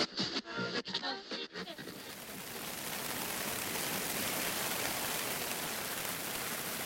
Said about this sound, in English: Well, what a difference an evening makes. You can know that here. The rain crashing down around us. Not a bad night, really. We did have quite a bit of rain during the evening. And although it's raining hard,